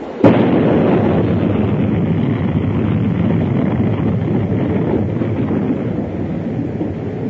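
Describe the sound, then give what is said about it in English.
A loud explosion bursts suddenly by the sea at the water's edge, leaving smoke, then a dense, roaring rumble carries on steadily for several seconds without fading. No one speaks. “Then, suddenly, an explosion.”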